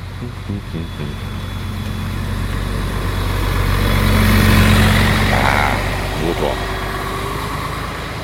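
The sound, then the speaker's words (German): A school bus engine rumbles closer from behind on a street, swelling to a loud peak midway before easing off slightly, with brief bits of talking over the steady traffic noise. “Da hinten kommt übrigens ein Schulbus.”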